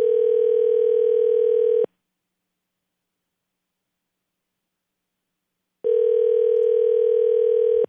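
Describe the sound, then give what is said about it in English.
Two long, steady ringback tones from a telephone line, each about two seconds, separated by several seconds of silence, as an outgoing call to a general manager waits to be answered. Clear and loud, no talking. “Let's go to the phones. Let's call Siler.”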